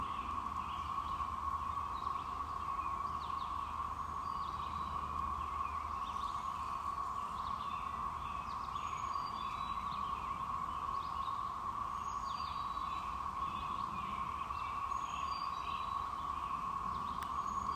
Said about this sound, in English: It's late morning, and I'm in the woods in front of our house, and I'm just going to let the sound record here. You can hear the robins and other birds, and more importantly, the hum of the cicadas.